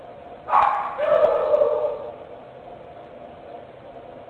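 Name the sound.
dogs barking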